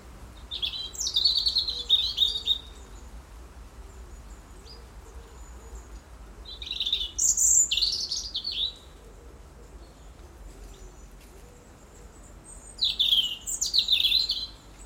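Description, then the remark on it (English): A robin sings three short bursts of thin, high, warbling autumn territorial song, each about two seconds long and separated by pauses, against a quiet outdoor background. “The autumn song battles of robins.”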